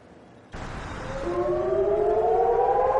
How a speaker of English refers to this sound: When sirens warn of a rocket attack, residents of Eilat in southern Israel have about 30 seconds to get a shelter.